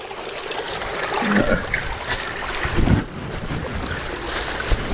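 Water runs steadily in a brook in the woods, a continuous close rushing and trickling hiss at an even level, with a couple of faint, brief tonal sounds rising above it partway through.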